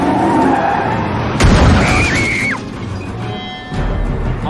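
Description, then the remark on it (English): A driverless car screeches into a skid with a sharp, loud tire squeal, then its engine roars as it speeds past, fading before another rush of noise at the end. “Why'd you let this car go?”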